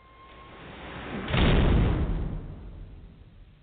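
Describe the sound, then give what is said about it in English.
The heavy vault door of the Gunmetal Armory being opened: a low rumble builds, then a loud, deep booming clunk swells for under a second before fading into a dull resonant hum. No one speaks. “I'm going to go ahead and open the vault door here.”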